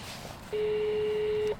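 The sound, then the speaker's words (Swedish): A door entry buzzer is rung once at a building gate to be let in, a steady electronic tone lasting about a second, fairly loud, with quiet background and no talking. “Och så ringer jag på porten och säger att vi kommer in och ska spela in nu.”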